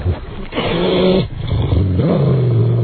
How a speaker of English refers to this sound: But let me turn on the baby monitor that we have up in the office upstairs. Oh. And let's listen. You have the baby? Well, no, for the doggies. All right. We're going to turn the doggy monitor and listen to them now. Listen to this.